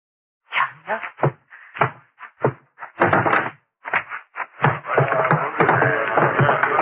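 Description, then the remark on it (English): A door being opened: a run of sharp thuds and knocks, then a sustained rattling, scraping clatter as it swings open. No one speaks. “Now, open the door.”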